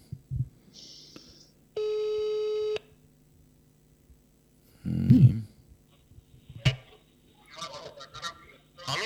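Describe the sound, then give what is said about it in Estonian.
The ringing tone of an outgoing telephone call placed from a radio studio sounds once, a flat, steady buzzy tone lasting about a second, later followed by a short low honk-like burst and scattered faint clicks, with no voices. “Ja nii me proovime teha telefoni kõne.”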